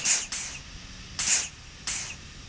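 Three sharp bursts of steam hiss from a steam engine after a lever is pulled, each loud and airy, released at roughly even intervals over a low rumbling background, with no voices. The engine is heated by an old radioisotope heat generator.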